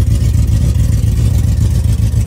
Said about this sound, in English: You know what this sounds like to me? This sounds like when a truck is in failsafe. When a truck is in failsafe, or a Coyote is in failsafe, it fires the cylinders in a different way. And this is a... It should not sound this way.